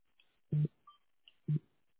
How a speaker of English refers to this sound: I think something came through. I think I heard your phone.